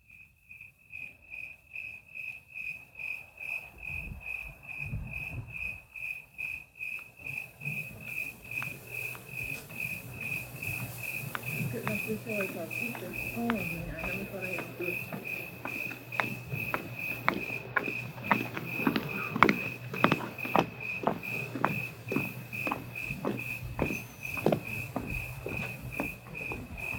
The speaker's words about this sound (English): Listen to this section of tape made just at dawn. You'll hear the civilized sounds of a lady's high heels tapping their way down the walk as the eternal canyon crickets sound their quiet song to the morning sun.